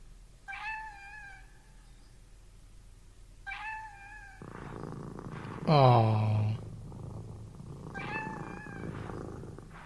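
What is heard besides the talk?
cat meowing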